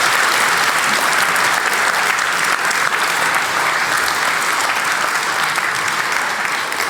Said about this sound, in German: Applaus für das Content-Team, bitte.